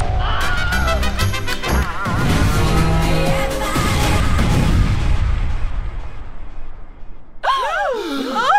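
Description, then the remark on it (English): A cartoonish explosion of a sound-making machine: warbling, sputtering tones build into a loud crashing boom that rumbles and fades, followed by a burst of squiggly, sliding whistles. “The sounder maker was going to... Explode!”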